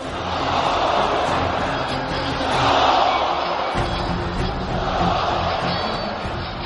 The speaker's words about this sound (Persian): وحشت تمام وجود لشکر سفیانی را فرا گرفت و صدای الله اکبر لشکریان مهدی لرزه بر اندام آنها انداخت.